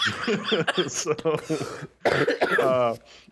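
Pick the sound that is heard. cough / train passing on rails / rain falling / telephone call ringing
cough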